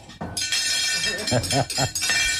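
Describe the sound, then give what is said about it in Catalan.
Forks clatter and clink against dinner plates at a group dinner celebrating a victory, upstairs at a place at the start of Calle Betis in Triana, Seville, in a busy, continuous jangle of bright metallic rings, with voices talking briefly over the clatter partway through. “Oh, jo volia tenir el so aquell de les forquilles, els plats...”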